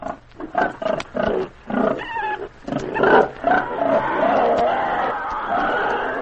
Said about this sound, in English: Now, did you get it? Well, if you've been on a farm, you know what that is. That was hogs and pigs. Well, I got it. Hogs and pigs. That's right.